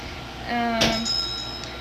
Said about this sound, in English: Am I hearing bells? Oh, and one on the bathroom door.